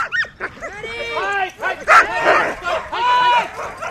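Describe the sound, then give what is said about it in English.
A pack of husky sled dogs yips and barks excitedly during practice rides around a park, their high, overlapping cries and whines rising and falling in a steady, clamorous chorus for several seconds. “As the dogs take some practice rides around the park”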